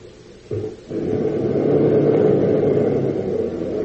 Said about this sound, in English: Now, you will start the car again, and we shall go back the way we came, with no interference.